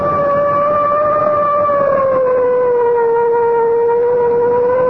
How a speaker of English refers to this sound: I guess it's time to sound the siren. Here goes.